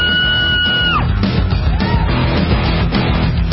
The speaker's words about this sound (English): These are all separate screams.